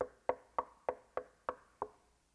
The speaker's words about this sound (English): He's knocking so that we realize that God's knocking, wanting to get in to where we think we're actually already worshiping him. And there's this knocking at the door.